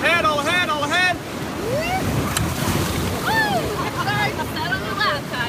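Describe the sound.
A steady, loud roar of rushing whitewater rapids in Maine's Kennebec River Gorge at the beginning of the rafting season fills the whole recording, with several voices shouting and calling out over the churning water.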